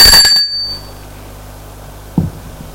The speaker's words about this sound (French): Le médecin sonne à la porte de sa maison.